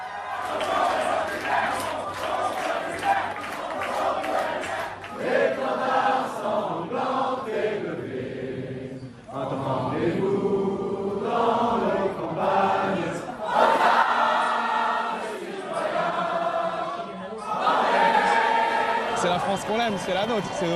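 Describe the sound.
A large crowd in France, gathered before screens, screams and cheers in celebration of a win by the Left, a dense, continuous roar of many voices with shouts rising and falling, swelling into louder surges near the end.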